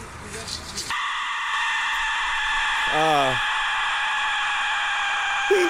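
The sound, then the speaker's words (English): An Aztec death whistle lets out a harsh, piercing shriek that starts abruptly after a second and holds steady and loud to the end, with a brief voice-like wail rising through it midway. “Well, let's listen to the Aztec death whistle.”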